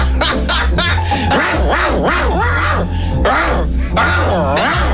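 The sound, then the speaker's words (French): A man growls loudly and continuously, his voice rising and falling in repeated guttural, dog-like bursts with no clear words, as he drives away a female cleaner. “s'exprime à sa manière, c'est-à-dire en grognant, pour repousser la technicienne de surface qui, selon lui, n'a pas nettoyé sa chambre.”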